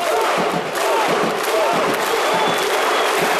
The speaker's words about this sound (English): That's a crowd of Iceland soccer fans cheering on their national team. Two beats and a clap. On the clap, everyone yells, "Huh!"